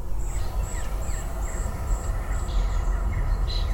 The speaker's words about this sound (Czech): Tak teď vám teda nějaký natočíme, ať víte, jaký zvuky přírody umí Hyundai vydávat. Toto se jmenuje zvuk lesa.